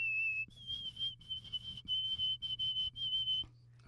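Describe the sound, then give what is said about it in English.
A shrill, piercing whistle made with fingers and mouth: one steady high note, then a string of slightly higher repeated notes broken by short gaps, over a faint low hum. “Did you just do that with your fingers and your mouth? I just whistled.”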